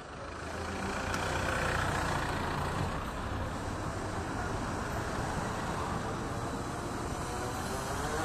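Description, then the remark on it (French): A steady, dense wash of road traffic, cars and heavier vehicles streaming past along the street beside the sidewalk, a continuous rumbling roar that barely dips over the eight seconds; no voices. “Et puis le flot des voitures à ma droite, qui vont me permettre de tenir à peu près l'axe dans lequel je vais aller.”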